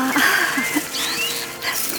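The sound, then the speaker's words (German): A roe deer calls with a few short, high, squeaky bleats and thin whistling cries over two seconds, set against a steady rustling background. “Ach, keine Furcht, Schneeweißchen. Es ist doch nur das Reh.”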